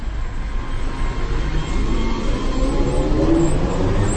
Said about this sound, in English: The sound of the trolley buses brings back fond memories of an idle summer in North Bohemia.